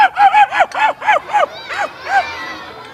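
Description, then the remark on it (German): A professional animal-voice imitator imitates a barking dog: a quick run of about nine sharp, yappy barks, loud at first, then more spaced and slightly softer toward the end. “Ein Hund, ja, das ist ein Hund, ja.”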